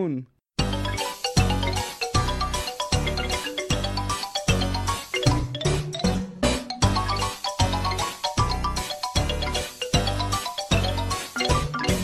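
After a brief silent gap, a loud segment exit chime plays, a full, bright musical jingle with bell-like tones over a steady pulsing beat that runs for about eleven seconds, with no talking.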